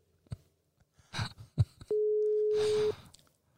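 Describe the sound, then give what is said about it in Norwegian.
A single loud telephone ringing tone, a steady one-second beep heard through the line as a call is placed to a woman's husband's phone, with faint clicks and rustling noises just before and after it. “Kan dere ringe mannen min sin telefon?”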